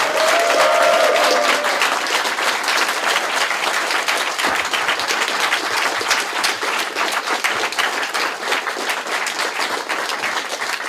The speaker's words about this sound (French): Et non, on a d'autres personnes de Gameblog qui vont se joindre à nous. Et je vous demande d'ailleurs de les applaudir très chaleureusement.